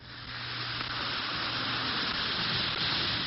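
An Alka-Seltzer antacid tablet fizzes steadily in a glass of water, a continuous crackling hiss that holds at an even level for a few seconds, with a faint low hum underneath and no voices.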